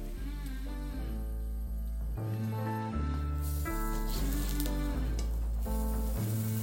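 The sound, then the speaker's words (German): A folded cheese sandwich with Emmentaler sizzles steadily in a frying pan, a continuous crackling hiss that holds loud throughout, with a background music bed playing beneath it and no one speaking. “Jetzt wird das Ganze zugeklappt. Und jetzt kommt es in die Pfanne.”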